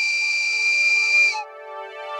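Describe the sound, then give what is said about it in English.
A shrill whistle blown into a telephone receiver as one long, steady, piercing note, fairly loud. About halfway through, the high tone cuts off, leaving a lower, buzzy sustained tone. “He blows the whistle again.”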